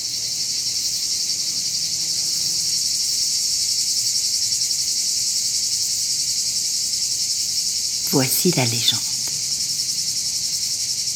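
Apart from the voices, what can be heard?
cicadas singing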